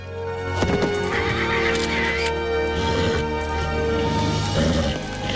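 A horse rears with a rider on its back, whinnying loudly and shrilly, its high neighing cries rising and falling over several seconds, with a few hoof clops and scuffling underneath.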